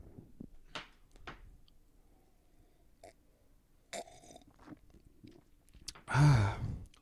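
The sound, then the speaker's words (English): Several sharp, scattered clinks and taps as a group taps tulip glasses together, followed by a loud gulping swallow of a 5.6% ABV pale ale near the end. No one speaks. “Without further ado, gentlemen, goodness, let's tap these glasses and get a group gulp in on this.”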